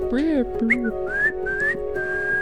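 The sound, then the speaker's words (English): A person whistles a short tune, a few clear notes sliding and held over a couple of seconds, with a low voiced hum at the start. “Yeah, something like maybe whistle it.”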